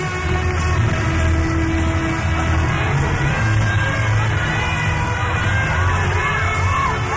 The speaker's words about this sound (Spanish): La gente pidiendo insistentemente otra como era de esperar, piden el bis. Ellas se querían despedir, pero imagino que no los van a dejar.